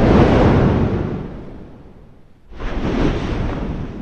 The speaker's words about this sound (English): Imagine this. It's what you'd hear sitting on the rim of the crater of an active volcano. The volcano is Mount Yasur.